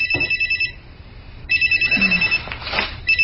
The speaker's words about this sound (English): Isn't it your phone? They can wait.